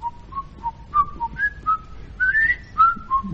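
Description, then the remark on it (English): A man whistles a lively jazz tune, about a dozen clear notes rising and falling in a bouncy rhythm, with no talking over it. “See, I can whistle.”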